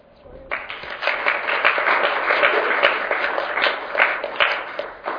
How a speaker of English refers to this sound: We could just give another round of applause for our panelists.